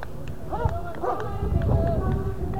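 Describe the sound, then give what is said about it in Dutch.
Police dogs brought in by their handlers bark and yelp a few times in quick succession amid a noisy outdoor crowd, with indistinct voices and a constant low rumble behind them. “Er komen nu ook hondengeleiders met honden uiteraard.”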